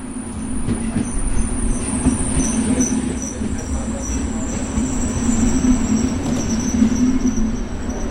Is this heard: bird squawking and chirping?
no